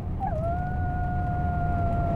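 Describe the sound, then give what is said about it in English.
Dogs in a neighborhood in Portland howl in one long, steady note that slides briefly at the start, then holds its pitch for about two seconds over a low, rumbling background. No one speaks. “There sure are some loud pooches in the neighborhood.”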